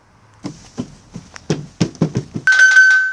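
About eight sharp knocks land in an uneven rhythm, then a loud, steady buzzing doorbell tone cuts in and holds to the end. No voices are heard.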